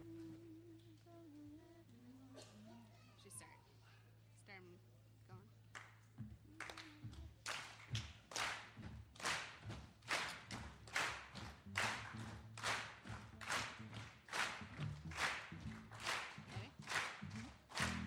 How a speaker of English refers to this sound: So stand up. This is another clapping and moving song.